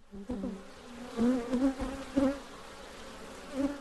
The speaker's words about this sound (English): Will the bees be buzzing?